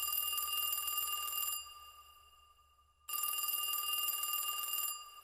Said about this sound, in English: So thinking it's a problem with the phone, I go back to my desk. About 20 minutes later, the phone rings again.